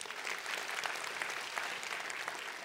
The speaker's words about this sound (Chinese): Amen。 为你们自己鼓掌一下吧。